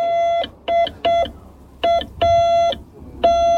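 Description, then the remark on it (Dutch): A steady mid-pitched tone keys on and off in Morse code, six beeps of uneven lengths, some short and some longer dashes, separated by brief gaps, with no voices. “Morse seinen is iets wat nog steeds gebruikt wordt binnen de zendamateurs.”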